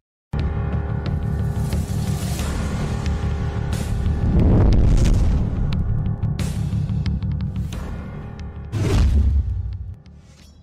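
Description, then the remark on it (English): A rocket lifts off with a loud, continuous roar of deep rumble and crackle, surging in a few bursts before tapering off near the end. No voices. “Lift off.”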